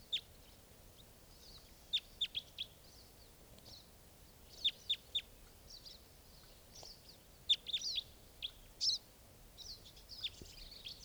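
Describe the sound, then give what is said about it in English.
A small flock of wild type 4 birds, just arrived and mixing with another type 4 bird, calls in sharp, high chirps, several voices overlapping in irregular bursts over a faint, steady background hiss, with no talking. “A small flock of type 4s has just arrived, and now they're mixing up there with that type 4 I was recording.”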